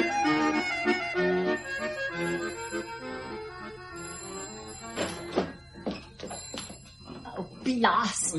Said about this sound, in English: Was that the phone? Yes, it stopped before I reached it.